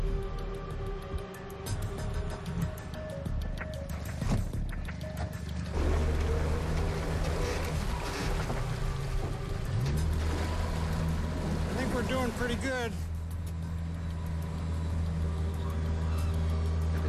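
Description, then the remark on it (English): A boat engine drones steadily, its low hum rising in pitch midway, with water sloshing and wind noise throughout and a few short whistling tones near the end. “I got my boat back. This boat's absolutely critical to me in the summertime.”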